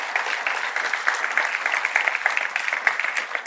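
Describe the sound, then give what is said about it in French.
A church audience breaks into sustained applause for God, many hands clapping together in a dense, steady patter for several seconds with no voices standing out. “Est-ce qu'on peut applaudir notre Dieu pour cette maison spirituelle?”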